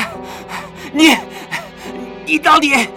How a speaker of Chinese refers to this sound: 那个人的脸上此时已经全是冷汗，他大口地喘息着。